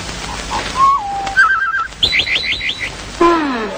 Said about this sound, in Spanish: Pájaros.